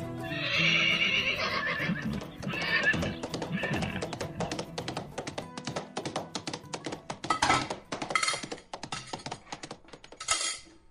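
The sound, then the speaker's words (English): A horse whinnies loudly, its neighs rising and falling, while hooves clop in a steady, rapid rhythm that continues after the calls fade. “I gotta go check on something that requires the use of a horse.”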